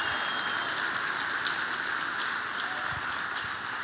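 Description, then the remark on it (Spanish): An audience applauding the Lord: a dense, steady wash of many hands clapping together, sustained at an even loudness throughout with no voices standing out. “Ahora dale el mejor aplauso que le hayas dado al Señor.”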